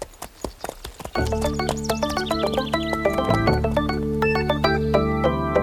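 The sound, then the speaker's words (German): Hooves clip-clop in a steady, brisk rhythm as a horse is ridden, the hoofbeats clear; after about a second, sustained music swells in beneath them. “Ich hatte zwar kein eigenes Pferd, aber ich durfte reiten.”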